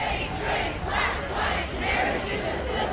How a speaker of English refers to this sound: But also present, though in smaller numbers, anti-gay marriage protesters. Chanting became competitive when arguments and crowds spilled into the street. Police would step in.